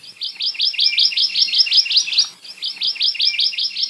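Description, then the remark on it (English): A Hawaii amakihi, a honeycreeper, gives a fast, even trill of high, sweet chirps, repeated in two long runs with a brief break between them. The call is clear and steady, with no voices. “In stories, their calls were often seen as the scolding voice of reason.”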